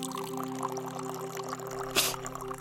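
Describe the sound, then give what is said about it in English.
Antiseptic solution, used to keep the wound sterile, poured onto a wound in a steady stream, with a brief, brighter splash near the end before the pouring continues. “Why does that water smell so strong? It's not water. It's for keeping the wound sterile.”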